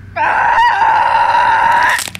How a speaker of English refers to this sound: Maeve screamed in the darkness until she was abruptly silenced.